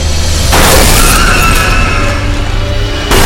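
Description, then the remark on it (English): A loud smashing crash as a radio is struck with a pickaxe, bursting in abruptly and churning with noisy, crunching debris for a couple of seconds before cutting off. No voices. “Pin-up girl smashes the radio with a pickaxe.”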